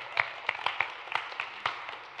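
Audience applause from a small group, with scattered, irregular claps ringing out at a moderate distance. The clapping is fairly soft and thin, and no one speaks over it.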